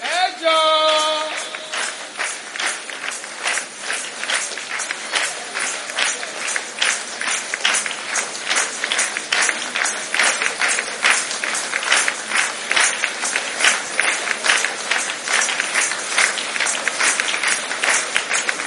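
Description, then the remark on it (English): A crowd claps steadily and loudly for the whole stretch, a dense patter of many hands with no voices rising above it, opening with a brief tonal sound before the applause takes over. “Those of you who are clapping, you will never be defeated again.”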